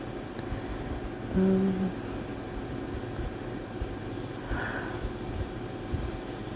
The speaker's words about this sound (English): You may even be able to hear the ocean sounds that I put on at night from YouTube. Try and help me sleep.